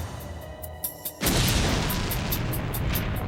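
A sudden loud package bomb explosion booms after a quiet moment, followed by a sustained roaring rumble with rhythmic crackling bursts that continue to the end.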